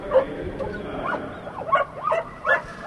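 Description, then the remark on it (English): Several greyhounds yelp, bark and whimper excitedly in short overlapping bursts as they are loaded into their starting boxes for a race at the Hollywood Greyhound Track, over a steady background of outdoor noise. “The dogs get excited as they're loaded into their starting boxes.”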